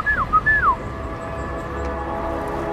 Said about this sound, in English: She tells him he'll get his chance, and she does a little whistle to the people that she alerted moments before with her cell phone, and they all activate.